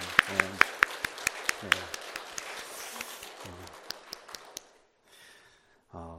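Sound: audience applauding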